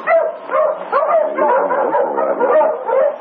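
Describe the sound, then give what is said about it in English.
A pack of sled dogs barks and yips continuously, overlapping voices forming a dense, noisy chorus that carries on without a break, fairly loud. “Oh, is your dog, Sergeant? Yes, I wonder why they're barking.”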